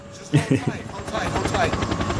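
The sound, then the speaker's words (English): Helicopters thud in with a rapid, rhythmic rotor chop that stays loud, building steadily over a couple of seconds while voices murmur faintly underneath. “Okay, here come the choppers.”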